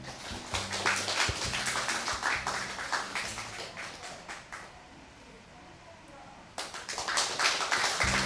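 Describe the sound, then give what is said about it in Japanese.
An audience claps steadily in a dense patter of many hands, thinning out after a few seconds, going briefly quiet, then swelling back into lively applause, for a shinnai-nagashi performance by a guitar and shamisen ensemble. “それではどうぞ拍手をお送りください。”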